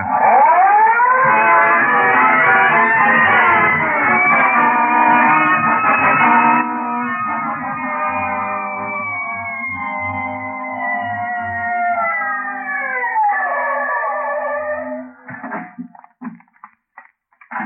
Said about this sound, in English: Red light siren. Let's go.